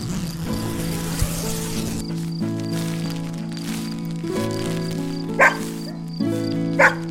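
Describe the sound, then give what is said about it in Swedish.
A dog outside a tent whines, wanting to come in, over a steady, humming tonal background, then gives two short, sharp barks close together near the end. The barks are clear and fairly loud, and nobody speaks. “Gnäll och skäll och tramp av fyra tassar. Det är bara hunden som vill komma in, säger Bubblan.”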